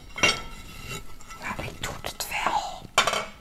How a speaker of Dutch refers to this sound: Ik wil eigenlijk de vaatwasser niet uitruimen. Want het kost me heel veel energie om niet te veel geluid te maken.